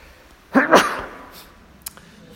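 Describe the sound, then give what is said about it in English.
A single loud sneeze caused by incense, a quick two-part burst that fades out, followed by a faint sniff. “Sneeze from incense every once in a while.”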